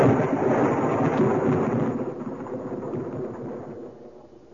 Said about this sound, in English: There is one who brings this storm at his will, summons and directs it.